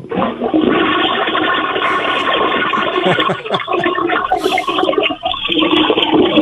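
A toilet flushes loudly, a continuous rushing, gurgling surge of water that fills the whole stretch without pause and with no talking over it.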